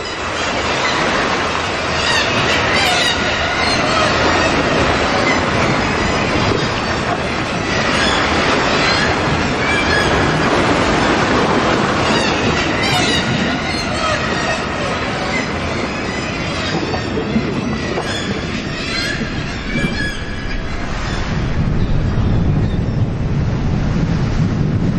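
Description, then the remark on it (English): Sea water rushing into a natural rock fault and crashing against boulders, echoing inside it, a loud, continuous booming roar with a rough hiss and a hollow, ringing, eerie quality, swelling in waves over the whole stretch with no voices. “And the sea rushes in there and it crashes up against these boulders. It can really echo in there, and it has a strange, eerie, mysterious noise.”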